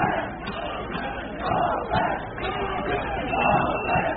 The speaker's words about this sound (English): Large crowds of migrants are growing frustrated and calling for crossing points to be opened.